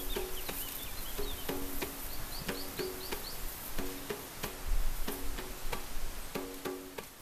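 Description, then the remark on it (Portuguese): An outdoor forest ambience with small birds chirping high overhead, repeated dry clicks, and a low buzzing drone of small insects pulsing through a steady hiss of wind passing through the trees. No one speaks. “Ouve-se os pássaros, ouve-se pequenos insetos, ouve-se o vento a passar por entre as árvores, e criou-se um ambiente muito intimista.”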